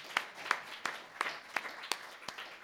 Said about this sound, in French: Amen! Oui! On applaudit, ben pourquoi pas, oui!